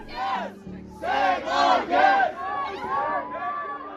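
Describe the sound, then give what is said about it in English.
A large crowd of supporters of the women's team shouts in unison outside the stadium on the Gold Coast after their final match, some trying to block the bus from leaving; rhythmic chant-like bursts rise and fall in loud waves, with a steady low hum of many voices beneath. “After playing their final match on the Gold Coast, supporters of the women swarmed outside the stadium, with some even attempting to block the bus from leaving.”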